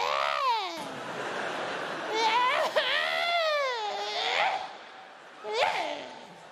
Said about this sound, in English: To be honest, the worst noise is a cat. I'm not frightened of cats, but it's like a stray, horny cat. Cats on heat make the most horrible, yearning, slutty noise.